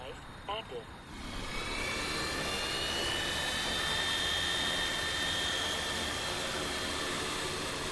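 The six motors of a hexacopter drone built to carry blood products spin up with a brief rising whine, then settle into a loud, steady whirring drone with high-pitched tonal hum that holds for several seconds.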